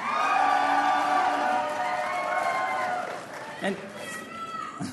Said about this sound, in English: And now, can all of you who participated in the Youth Slam as volunteers, mentors, and instructors please give us a cheer?